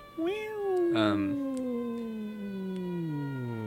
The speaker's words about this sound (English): Sorry, pause for the siren.